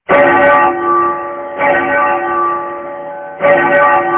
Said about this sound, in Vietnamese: Cũng nghe từ phía Thiếu Lâm tự tiếng chuông vang lên dồn dập, nghe thật khẩn cấp.